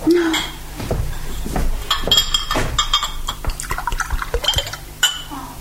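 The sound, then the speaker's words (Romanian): Water pours into a glass, with several bright clinks of glassware and dishes scattered through the pour and a faint voice briefly at the start. “Ai avut o clipă de depresiune și dă-mi-te rog puțin apă.”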